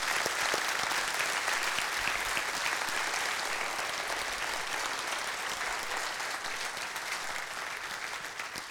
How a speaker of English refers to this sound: But let's have a round of applause for our staff here this morning.